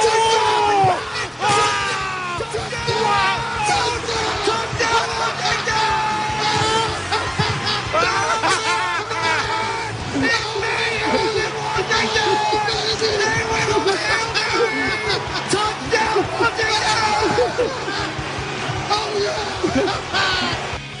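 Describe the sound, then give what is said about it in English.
Several men, broadcasters in the press box calling the Commanders' Hail Mary pass from Jaden Daniels to Noah Brown, scream and yell excitedly over one another in a loud, chaotic jumble of overlapping voices, sustained without pause for about twenty seconds. “Just like five people just screaming at the same time.”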